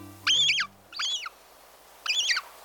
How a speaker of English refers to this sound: We're hearing the call of a hungry young gull, tagging along as its parent scavenges the beach for tidbits.